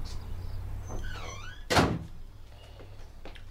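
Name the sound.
front door closing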